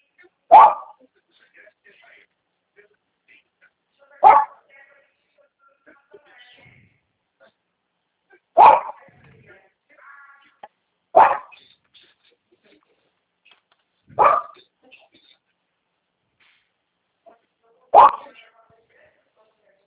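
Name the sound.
dog barking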